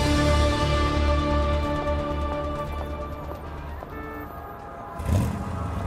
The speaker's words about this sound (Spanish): Me encuentro en el camino al trabajo, es decir, a grabar otro episodio de Leyendas Legendarias. Y ahorita hay un tráfico horrendo.